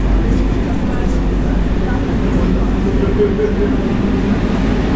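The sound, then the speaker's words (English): A train rolls into a station with a loud, steady low rumble and constant mechanical noise filling the space, with muffled voices faintly underneath. “But I think they announced the software observatory when we were the train was entering the station.”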